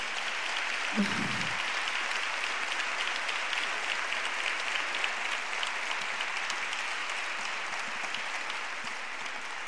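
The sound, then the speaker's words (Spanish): A crowd applauds steadily for a music quartet and the people behind the lighting and sound, a dense, even wash of clapping hands that holds at a constant level for the whole stretch, with a brief low vocal sound near the start. “a este cuarteto de música, que es una maravilla también, que quiero pedir un aplauso también para ellos.”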